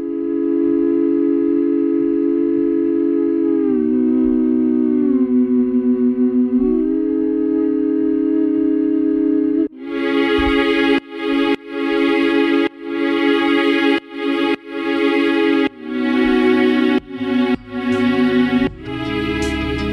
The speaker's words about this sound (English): It's … whistling. He's not a very good whistler, but I told him not to worry, because I'm going to pitch it down like an octave.